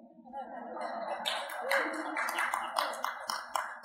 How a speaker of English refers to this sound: The 20 old people just clapped.